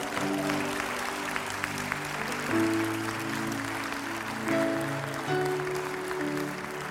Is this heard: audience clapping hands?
yes